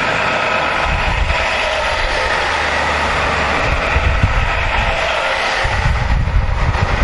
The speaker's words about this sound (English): I'm going to pause for a second until we get by the bus so you can hear me.